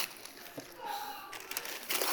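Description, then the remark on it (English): Wrapping paper on a gift crinkles and rustles in uneven bursts, then tears open with a louder, sustained rip at the end. “I want you to go ahead and open the gift.”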